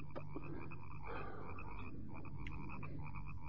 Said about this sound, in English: There must be millions of them in those marshes. Hmm? The frogs.